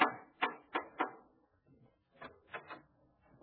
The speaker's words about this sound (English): Gracie has rushed over to Herbert Markle's house to inform him of his romantic future. She knocked at the door.